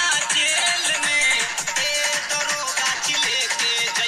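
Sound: phone call ringing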